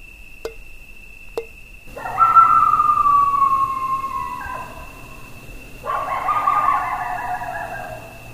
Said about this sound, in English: It is a cool evening, and the sun is setting on the horizon. Crickets and an occasional coyote howl break the quiet.